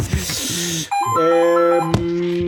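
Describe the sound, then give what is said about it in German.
A loud, old-fashioned house telephone in a basement rings, its bright electric tone holding steady for a couple of seconds with a brief break near the start, no voices present. “Das ist ein Haustelefon hier unten im Keller. Es klingelt leider pedantisch laut.”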